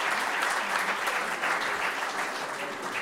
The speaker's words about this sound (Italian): È andato via. Facciamo comunque un applauso.